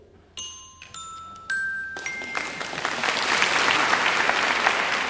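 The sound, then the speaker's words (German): A series of bright, ringing chime tones sounds in quick succession on a German quiz show, then the audience breaks into sustained applause for the Aalen team's correct answer, Röttgen near Siegen in Westphalia, swelling and continuing steadily to the end. No one speaks. “2:0, wir haben hier schon Beifall gegeben, jetzt für Aalen und 3 Fragen sind noch offen.”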